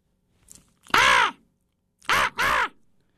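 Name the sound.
crow cawing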